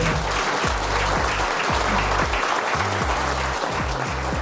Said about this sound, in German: Vielen, vielen Dank an euch alle und einen herzlichen Applaus bitte.